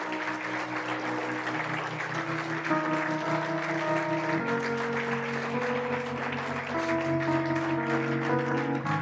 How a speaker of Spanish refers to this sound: Den un aplauso a Dios.